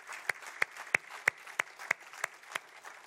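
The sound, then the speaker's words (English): An audience at a Sunday church service gives a round of applause for a homebound couple: a soft, continuous wash of many hands clapping, with a few sharp, bright claps standing out in a steady, even rhythm. Nobody speaks. “So let's just give a round of applause for this dear couple.”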